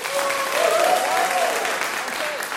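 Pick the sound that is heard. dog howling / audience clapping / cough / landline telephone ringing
audience clapping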